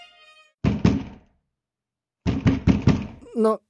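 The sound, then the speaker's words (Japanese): A door bangs open hard and suddenly, heard as two loud clusters of heavy wooden thuds separated by a pause, with a brief voiced sound right at the end. “いきなり扉が勢いよく開いたかと思うと、そこには大男が立ちはだかっていた。”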